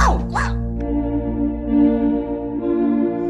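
dog barking

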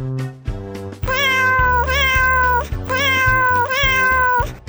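cat meowing

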